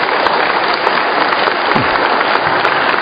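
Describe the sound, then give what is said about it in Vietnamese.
Sustained applause from a large crowd at a church community gathering marking the year's end, dense and steady throughout, with many hands clapping at once at a loud, even level and no voices standing out. “Chúng ta hân hoan chào đón nhau một tràng pháo tay thật là nồng nhiệt thưa anh chị em.”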